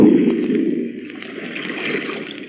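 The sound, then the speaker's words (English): Water gurgles and churns steadily as a ship sinks in its final plunge, with a dense, muffled bubbling roar that stays fairly loud throughout and no voices over it. “Look, it's sinking. By George, the final plunge. There she goes.”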